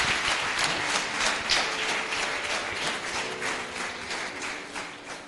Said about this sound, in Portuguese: Clap for the boy, clap for the boy. Palmas para o miúdo.